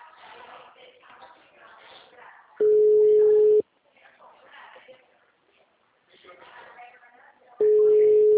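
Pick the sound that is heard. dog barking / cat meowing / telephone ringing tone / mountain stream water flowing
telephone ringing tone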